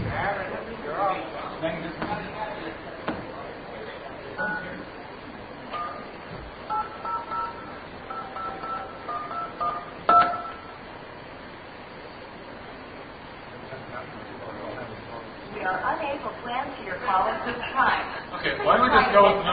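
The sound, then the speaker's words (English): A string of telephone touch-tone beeps, short dual-pitched keypresses in quick succession, sounds mid-clip against a rushing, noisy background with indistinct voices at the start and end. “We need phone.”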